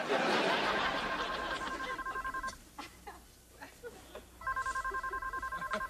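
A telephone rings loudly with a rapid electronic trill, two bursts separated by a short pause, over a busy, noisy background.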